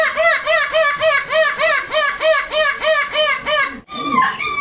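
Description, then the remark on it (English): A 10-year-old boy dressed as a seagull imitates a screeching seagull at the European Gull Screeching Championship: about ten quick, high, arching squawks in a steady laughing rhythm, loud and alone, then a brief pause and one final rising cry. “Won gold for the second year in a row in the European Gull Screeching Championship.”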